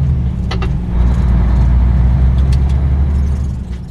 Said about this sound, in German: Dann bin ich etwa so um 20 vor 5 Uhr da, mache den Lastwagen parat und fahre dann um 5 Uhr los, so wie jetzt.